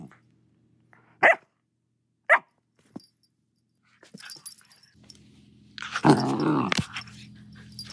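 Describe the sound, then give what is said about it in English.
Jet, a black lab terrier mix puppy adopted from a shelter, gives two sharp, high yaps a second apart, then after a pause breaks into a louder, rougher burst of growly barking that tapers off. “And now we have Jet, a black lab terrier mix whom we adopted from the shelter 5 weeks ago.”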